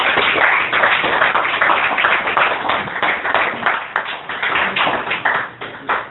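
A crowd applauds steadily for several seconds, many hands clapping in a dense, crackling wash that stays loud throughout and eases slightly near the end, with no voices.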